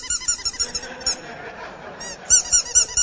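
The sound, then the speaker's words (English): A small dog named Emma squeaks her wiener dog toy in quick, high-pitched bursts, pauses briefly, then resumes louder near the end. No one speaks. “Her little desire was for squeaking.”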